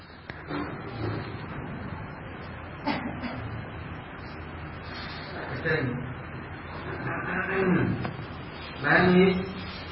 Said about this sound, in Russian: В это время лев тоже рычит.